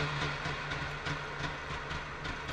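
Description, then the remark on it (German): A Trabant's two-stroke engine runs steadily, a loud, raspy, buzzing drone with a low hum and faint rhythmic pulsing throughout, with no one talking. “Nee, das ist ein Auto. So klingt ein Trabi.”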